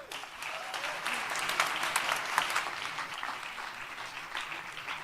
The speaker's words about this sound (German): Ich bitte um einen ganz herzlichen Applaus und viel Aufmerksamkeit.